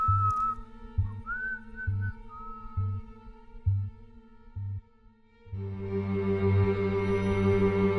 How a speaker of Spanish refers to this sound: Cerró la puerta del establecimiento y, silbando una alegre tonadilla, se alejó calle abajo, iluminado a duras penas por la escasa luz de las farolas.